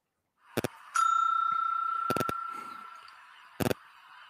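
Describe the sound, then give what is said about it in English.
A single bright bell ding rings out and slowly fades over a couple of seconds, framed by sharp mechanical clicks before and after, with no talking. “So let me give this a bell right here for making a comeback, man.”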